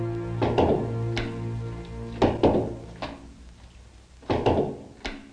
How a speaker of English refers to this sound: With an angry grimace, he throws the ball into the mitt viciously before chucking it against the wall and catching it.